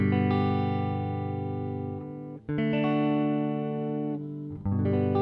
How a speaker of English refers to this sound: Now what I want you to do is practice playing the G chord and going to the D chord if you have your guitar and listening to them, especially the differences between them. Here's the D. Here's the G.